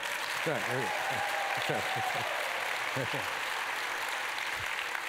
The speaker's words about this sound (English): Now, we've got great worship here. How about this worship team that sang some words? Can we give them a hand? Now, again, we'll call you out. That was pretty pitiful clapping. How about that worship team this morning, huh?